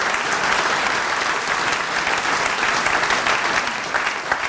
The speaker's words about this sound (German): Heute steht er zum allerersten Mal als Slammer auf der Bühne. Ich glaube, das hat schon mal einen Applaus verdient.